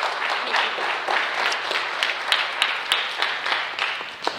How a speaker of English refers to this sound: So let's give him a round of applause here this morning, guys.